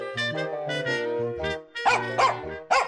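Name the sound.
dog barking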